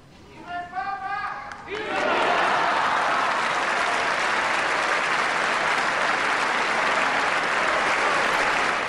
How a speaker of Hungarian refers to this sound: Hirtelen azt hittük, hogy ma elmarad a taps, de valaki nagyon szépen hallhatóan bekiabálta, hogy éljen a pápa, úgyhogy következett a taps is.